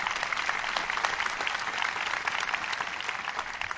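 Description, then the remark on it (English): A crowd claps steadily for Governor Easley and Governor Jim Martin, a dense, continuous wash of many hands that holds evenly throughout, with no voices standing out. “Y'all please give them a round of applause.”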